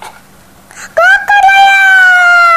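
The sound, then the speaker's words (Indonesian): A single loud, drawn-out vocal imitation of a rooster's crow, rising sharply then holding a long strained tone, preceded by a brief soft breathy sound. “Ayam, tolongin saya dong. Ya. Kokoreok.”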